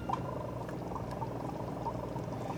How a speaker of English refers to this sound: Step one. Connect air pump to water chamber using silicone tubes. Position incandescent lamp 2 to 3 centimeters from water chamber. You turn on this lamp. You turn on the air.